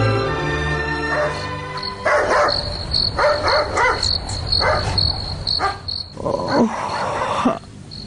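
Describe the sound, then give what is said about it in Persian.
A dog barks repeatedly in short, irregular bursts over a steady chorus of crickets chirping at night, moderately loud, with no voices present. “او مرده که سک میجفه، من گفتم خیلی دوز آمده.”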